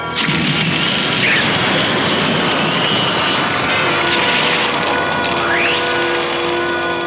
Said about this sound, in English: right, stop main engines. We'll just have to wait.